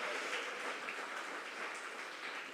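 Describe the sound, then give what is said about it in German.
A crowd at a church service applauds steadily for the first-graders present, many hands clapping in a dense, even wash of sound with no voices over it. “Können wir mal einen Applaus geben für die Erstlässler?”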